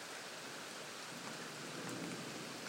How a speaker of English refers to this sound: In a thunderstorm. I'm in France still. And we've got a storm like you wouldn't believe.